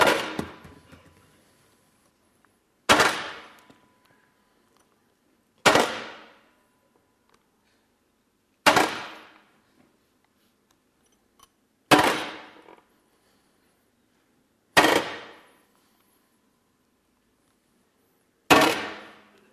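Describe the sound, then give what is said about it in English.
Seven heavy hammer blows strike metal one at a time, each a sharp bright clang with a ringing decay, spaced roughly every two to three seconds with quiet in between. “I love bringing a hammer to church. This is what I work with every day.”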